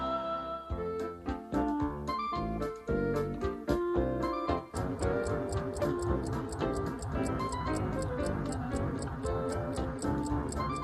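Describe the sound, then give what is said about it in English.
An alarm clock ticks steadily and briskly, each sharp tick close and clear, running without pause over a layer of sustained tonal sound. “My alarm clock hasn't gone off yet.”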